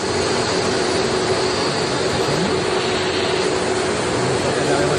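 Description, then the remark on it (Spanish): A climate chamber machine called Termotrón, which reproduces the climate conditions of Doha, runs at a military base in Torrejón de Ardoz while Spanish national team marathon runners run inside it, with a loud, steady mechanical roar, a broad hiss layered over a constant low hum that holds unchanged throughout. “dentro de esta máquina que se llama Termotrón, que reproduce las condiciones climáticas de Doha”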